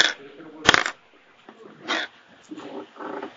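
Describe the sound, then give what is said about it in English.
Percentile dice being rolled: a sharp clack followed by a few quick rattling clatters, like dice rolled across a table, with faint voices murmuring underneath. “Could roll percentile dice.”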